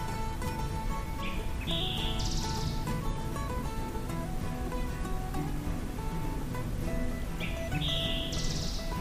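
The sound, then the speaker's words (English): An eastern towhee sings two phrases several seconds apart in the forest of Hickory Creek Wilderness Area, each a short note or two followed by a buzzy trill, over a steady, dense background of outdoor noise. “Years later, I still don't know with absolute certainty what species this song was from. But I now strongly suspect it was an eastern towhee.”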